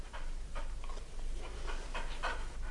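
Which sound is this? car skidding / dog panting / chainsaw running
dog panting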